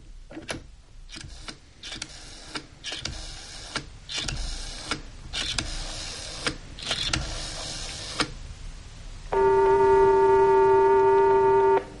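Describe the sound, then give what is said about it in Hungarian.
A phone being dialed in a series of quick mechanical clicking bursts, then a loud, steady buzzing ring tone on the line for the last few seconds. No voices. “Na végre, kicsönget.”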